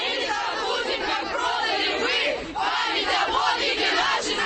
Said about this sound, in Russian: Около 100 молодых людей под российскими флагами и с баннером «Мы наследники Великой Победы» кричали лозунги, направленные против инициативы эстонских властей демонтировать памятники советского периода.